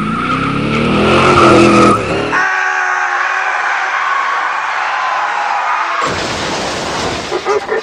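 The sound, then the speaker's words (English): An out-of-control stock car skids loudly with a sustained, high tire squeal, framed by rough bursts of engine roar and scraping at the start and end, intense throughout. “But sometimes, innocent bystanders can be victims to an out-of-control stock car.”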